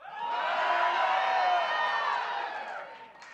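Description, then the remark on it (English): A church audience erupts in loud, sustained shouting and whooping, crying out in praise to God, holding steady for a few seconds before tapering slightly at the end. “Just give him a shout.”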